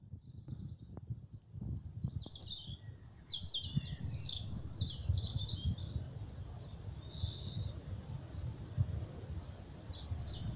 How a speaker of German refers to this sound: Jetzt, wo der Wind wieder abklingt, hörst du das Gezwitscher der Vögel.